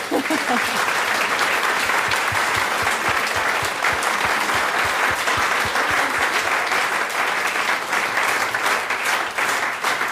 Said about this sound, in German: So. Dein Applaus